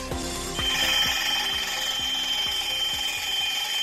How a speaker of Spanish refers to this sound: No es que se te haya olvidado el despertador, el sonido de la pilotadora es lo que escuchas. Ayer, Lantania, empresa encargada de las obras de la alta velocidad hacia Cantabria, pretendía utilizar de noche en el camino viejo de Usillos esta máquina